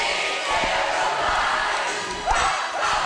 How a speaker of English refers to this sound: And listen to this crowd get into it.